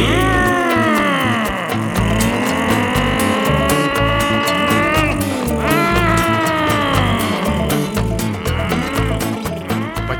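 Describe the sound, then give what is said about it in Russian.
A jeep towing a grain trailer and a tractor rev hard together, their buzzing engines sweeping up and down in pitch as they race at high speed out of a village toward a mill. The sound is loud and continuous, with no voices. “Одновременно джип и трактор рванули с места. На очень высокой скорости они выехали из деревни и помчались к мельнице.”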